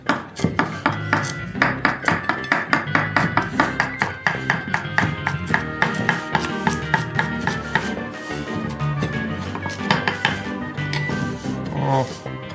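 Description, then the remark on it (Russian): A Masahiro kitchen cleaver chops tender meat in a steady run of sharp, rapid thwacks on a board, the strokes loud and evenly spaced, continuing for the whole stretch with a faint voice murmuring underneath. “Я продолжаю пользоваться топориком Масахира.”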